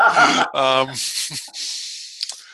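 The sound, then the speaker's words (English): Cold hands rub briskly together in a steady, dry, hissing swish lasting over a second, following a short burst of voiced, yawn-like vocal sound at the start. “My hands were cold, honest.”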